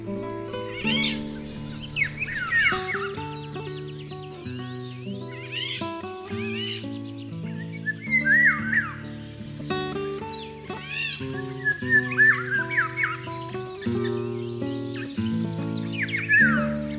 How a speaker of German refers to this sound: Das war der Pirol.